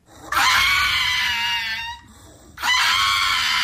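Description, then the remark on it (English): A 4-year-old pug mix dog, happy and excited, lets out two long, shrill, scream-like barks, the first lasting about a second and a half, the second starting after a short pause; loud, high and piercing with no talking. “It's a pug mix. 4 years old, and he seems to get happy and excited and make that noise.”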